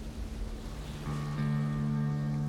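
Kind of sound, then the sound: nature, ocean waves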